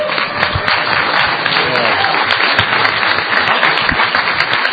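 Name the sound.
applause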